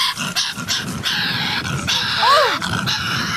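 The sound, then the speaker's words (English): A cartoon Tasmanian devil growls and snarls in a continuous raspy, gravelly rumble, broken near the end by a short whiny squeal that rises and falls in pitch. No one speaks. “The Tasmanian devil.”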